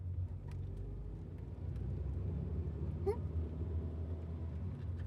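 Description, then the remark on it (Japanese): A steady, low rumble fills the cabin of a moving limousine, deep road and engine hum with faint rattles, continuous, with a brief higher whine rising midway. “リムジンに乗るのは初めてですか？”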